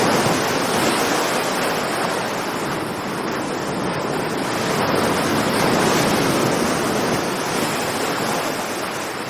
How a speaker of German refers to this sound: Wer noch nicht in München war, sondern hier mit uns gerade zum ersten Mal herumläuft, der hat sich vielleicht gerade am Ende so ein bisschen gewundert über dieses Brandungsgeräusch da im Hintergrund.